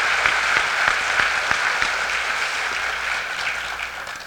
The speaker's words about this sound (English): Please join me in applauding our dignitaries.